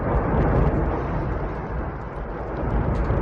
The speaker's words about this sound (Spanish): Así suena el volcán de Cumbre Vieja con esta lluvia que lleva cayendo desde ayer.